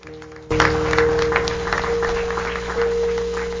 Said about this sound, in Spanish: Dar un aplauso una vez más, ¿por qué no?